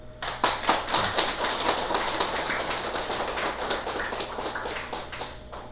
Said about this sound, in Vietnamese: Thành ra vì vậy, ở đây cũng xin mời đại chúng vỗ cho một tràng pháo tay cho những ai có niềm tự tin cao và có một cái sự cương quyết cực độ.